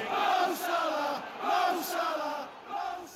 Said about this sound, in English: the cheers of the fans of Liverpool, they will make you stand up and applaud.